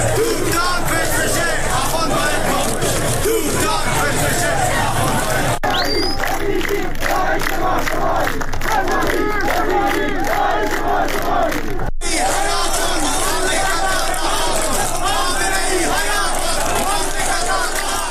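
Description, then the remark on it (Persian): A large protest crowd marching after Friday prayers in Zahedan, Iran, chants anti-government slogans in unison, loud and continuous, with rhythmic shouted phrases rising over a dense roar of many voices and scattered cheers. “معترضان در زاهدان در 16 جمعه اعتراضات پس از نماز جمعه راهپیمایی کردند و شعارهایی ضد حکومتی از جمله حکومت بچه کش نمیخوایم، سپاهی بسیجی داعش ما شمایی و تهرانی با غیرت حمایت حمایت سر دادند.”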